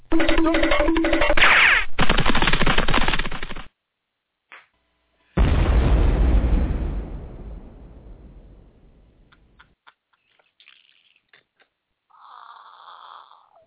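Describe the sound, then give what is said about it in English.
Two loud, roaring blasts from a home fire in Texas, the first a sustained rumbling burst, the second a heavy boom that rolls and fades over several seconds, followed by scattered faint crackles and a brief hum. “And everything's bigger there, including the flames. Explosions.”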